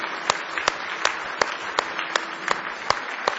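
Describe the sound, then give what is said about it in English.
A church audience gives a hand clap of praise, a steady wash of hand clapping with sharper claps standing out at a regular beat, fairly loud and sustained throughout, with no talking. “Give me one more hand clap of praise tonight.”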